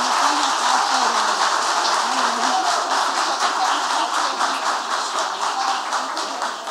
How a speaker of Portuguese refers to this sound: E, então, essa mulher realmente merece uma moção de aplauso, que nesse momento eu peço a vocês.